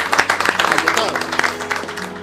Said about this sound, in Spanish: Gracias, Nico, gracias. Un aplauso para Nico Favio. Y para Leonardo.